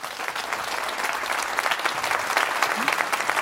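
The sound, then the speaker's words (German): An audience at the Deutschlandfunk Kulturarena in the foyer of the Humboldt Forum applauds steadily for the whole stretch, a dense, even wash of many hands clapping at a fairly loud level, with no one speaking over it. “Und wir haben es am Applaus gehört.”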